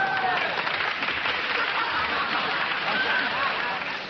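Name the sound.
audience applause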